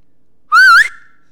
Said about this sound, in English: You can whistle as well as any farm boy.